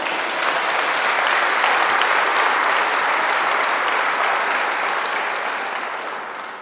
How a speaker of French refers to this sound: On peut l'applaudir, Jésus.